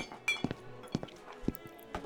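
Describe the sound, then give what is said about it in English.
Dishes clink and clatter as they are being cleared, in a loose, irregular series of short knocks and chimes, a handful of sharp ceramic taps spread over a couple of seconds with faint background noise. “You can leave your dishes and your clearing work for a few moments.”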